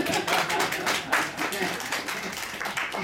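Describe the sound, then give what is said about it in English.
An audience at the School of the Get Down claps steadily for about three seconds, a dense, irregular patter of many hands at fairly even loudness, with a faint murmur of voices mixed in. “This is, don't draw a clap for yourself.”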